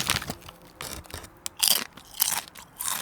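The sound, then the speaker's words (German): Crisp, crackly crunching of Schoko-Crossis, a chocolate crisp snack, being chewed, in several bright bursts with short pauses between bites, fairly loud and with no talking. “Das sind die Crossis. Geil.”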